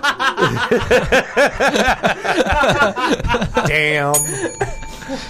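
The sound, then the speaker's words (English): Voices chatter and chuckle, then near the end a bright, ringing bell sounds once, its clear metallic tone lingering and fading over about a second. “A stick with a bell on it.”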